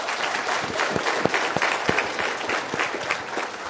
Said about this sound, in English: If y'all would stand up, let's give this couple a round of applause right here.